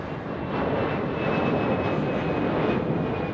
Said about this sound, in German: So, Flugzeug ist gelandet, aber es war ein sehr ruhiger Flug tatsächlich